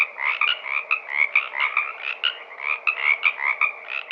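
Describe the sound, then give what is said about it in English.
A male tree frog's advertising call, made to attract a female to breed: rapid, repeated nasal croaks pulsing steadily several times per second, loud, with no voices present. “But how do these unique tree frogs ribbit?”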